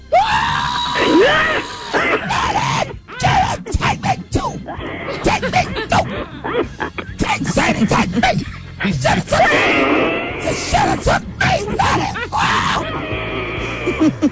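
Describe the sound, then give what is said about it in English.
A person wails and sobs loudly, with long, rising and breaking cries, strained groans and gasping breaths continuing almost without pause. “I got over that quick. You not shouting no more? I don't cry long.”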